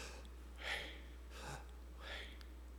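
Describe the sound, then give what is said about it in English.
Three slow, audible breaths, a soft rushing inhale and exhale pattern with pauses between, over a low steady hum and no talking. “And so there's this sense that our being in God is this never-ending in and out, breathing in, breathing out.”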